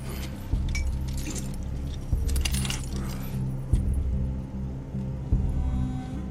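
Metal keys jangle and clink repeatedly over a low rumbling background, with a few sharper metallic knocks, as the chains on a man are unlocked and worked loose.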